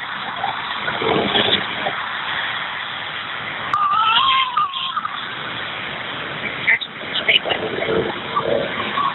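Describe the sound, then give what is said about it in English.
A child cries in wavering, high-pitched wails that rise in a couple of bursts over steady car road rumble, heard through a muffled phone-quality line, in a car with hazard lights on, heading to the hospital in peak Nashville traffic. “So I guess him crying is a good thing.”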